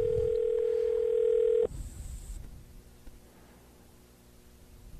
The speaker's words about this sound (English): So let me try and call him and see what happens. So once again, please hold on. And you're gonna hear the dial tone.